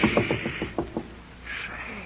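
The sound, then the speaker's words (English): A quick run of about seven evenly spaced knocks on a door, followed by a short stretch of soft rustling noise with no voices. “Do you hear anything? Of course I do. There's somebody at the door.”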